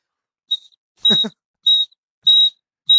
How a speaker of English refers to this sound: this is the smart key safety siren alarm for when you leave your keys behind. So, oh, that's a defense thing. Instant attacker defense.